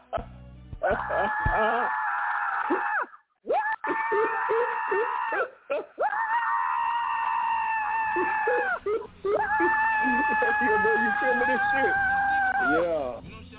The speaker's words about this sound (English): Yeah, he hitting the damn donkey, man. He hitting the donkey in the face, man. Man, that donkey ain't gonna take that, man.